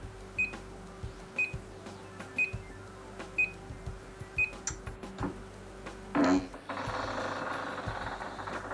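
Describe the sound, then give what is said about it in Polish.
A treadmill with a person on it, started by pressing the start button at the top of the left handle, gives five short, high-pitched electronic beeps about a second apart. A brief clunk follows as its motor starts and settles into a steady, loud whirring hum, running at 0.8 km. “Może to nawet było słychać, że ona piknęła, a potem silnik ruszył.”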